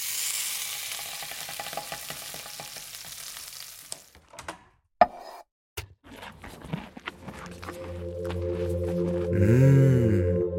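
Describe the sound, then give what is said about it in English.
Steady sizzling of food on a George Foreman electric grill for several seconds, then a few sharp clanks and knocks, followed by a low, droning hum with rising and falling tones. “After I'm done snapping, put in George Foreman grill sizzling sounds.”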